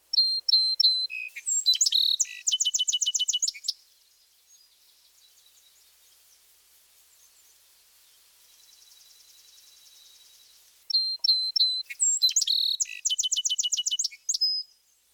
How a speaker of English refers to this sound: Individual song sparrows give their own variations. Let's listen to several different birds. One.